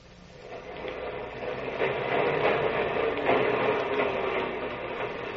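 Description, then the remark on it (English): The first elevated L train of the morning clatters by on Allen Street with a steady rumbling roar and rhythmic clacks, swelling louder in the middle as it passes, then easing slightly but still rolling on. No voices. “Morning clatters with the first L train of Allen Street.”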